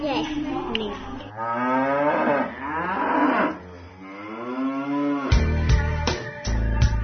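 A cow moos loudly in long, drawn-out lowing calls that rise and fall in pitch, followed by a few sharp knocks and thumps near the end.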